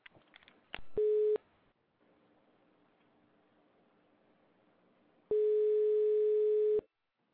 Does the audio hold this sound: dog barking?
no